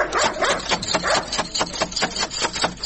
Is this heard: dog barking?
yes